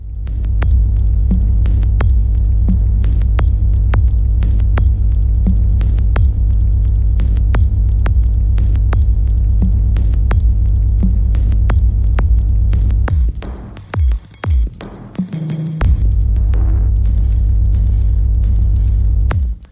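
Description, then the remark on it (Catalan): Experimental electronic music, the track by two artists from the compilation on the netlabel Modismo, built on a loud, steady low throbbing hum with scattered clicks and crackles above, briefly breaking into stuttering dropouts before the drone resumes. “Música electrònica i reivindicativa de la mà d'estos dos netlabels dels quals ens fem ressò quasi sempre en el Cant de la Xixarra, Pueblo Nuevo i el seu lema Resistir i Permanecer, i també Modismo”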